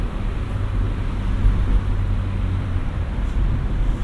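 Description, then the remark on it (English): Open-top soft top MG sports car cruising along a twisty road on a summer's day with a steady, deep engine rumble and constant rushing wind noise, loud and even throughout with no voices. “Can't really beat a twisty road and a soft top MG on a summer's day.”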